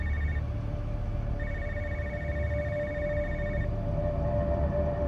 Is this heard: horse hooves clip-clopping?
no